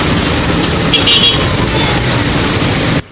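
Dense rush-hour road traffic in Ghana, cars crawling bumper to bumper, fills the scene with a steady engine rumble, while a car horn honks briefly around the middle. The sound is loud, with no talking.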